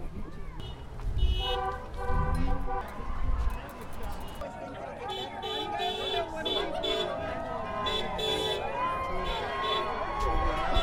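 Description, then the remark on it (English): Car horns toot repeatedly in short bursts and longer blasts over a loud, bustling outdoor crowd of roughly 2,000 people shouting and cheering, with traffic noise and voices mixed throughout. “You can hear cars tooting the horns. The crowds are shouting out.”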